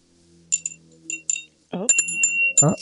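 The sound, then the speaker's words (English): A small, tinny old bell gives a few short, weak dings in quick succession, then keeps ringing thinly while a voice speaks briefly over it. “My bell is a little old.”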